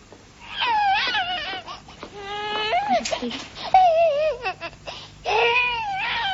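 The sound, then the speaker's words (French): An infant wails in repeated, wavering bursts with rising and falling pitch, fairly loud, pausing briefly between cries before starting up again. “Vous refusez de reconnaître cette bébé de Madame Donneur?”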